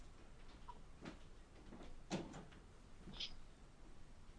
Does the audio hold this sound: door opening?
yes